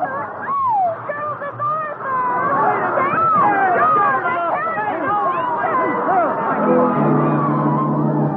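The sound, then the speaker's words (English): A dense crowd of more than 5,000 bobby soxers on Broadway mobs a star, squealing and yelling at once, a loud, continuous frenzy of high-pitched overlapping shrieks filling the whole stretch without letting up. “More than 5,000 squealing, yelling, hysterical bobby socks has mobbed him, tore his clothes from his back.”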